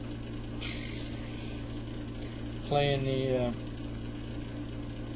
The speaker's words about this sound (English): It's probably sensitive enough to pick up the noisy damn air conditioner. October and I still got to use an air conditioner in here.